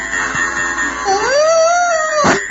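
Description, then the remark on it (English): A single drawn-out dog howl voiced by a person, rising and then sliding down in pitch, loud, ending with a short burst of noise and no talking over it. “I'm a dog, boy.”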